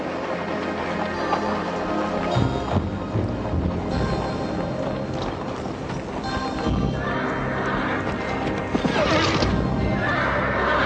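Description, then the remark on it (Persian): Several thirsty horses neigh and whinny loudly over a steady rumble of hooves clip-clopping, with a gusty, windy background filling the scene; no one speaks. “میبینم که اسبهایشان تشنند و مردانشان از آتش به خود میپیچند.”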